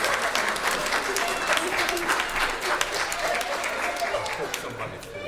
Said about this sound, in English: And let's give Mary and Joseph and Simeon a round of applause. Well done.